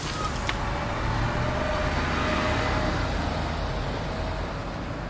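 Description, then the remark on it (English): A bus's engine rumbles steadily as it pulls away from a bus stop, a broad, continuous roar with hissing road noise and no voices over the whole stretch. “then stops as she nears the bus stop, just as a bus pulls away.”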